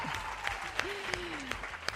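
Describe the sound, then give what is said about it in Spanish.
An audience applauds their classmates from the Instituto Margarita Salas team, a dense, steady patter of clapping lasting the whole two seconds, with a few sharper claps and a brief cheering voice or whistle rising over it. “Un aplauso para vuestros compañeros.”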